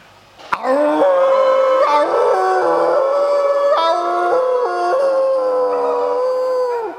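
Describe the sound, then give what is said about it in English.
A person imitates a dog's howl into a group, a long sustained wavering cry that shifts pitch in steps, loud, with a sharp click at the start and no talking. “So I'm going to do a howl into that.”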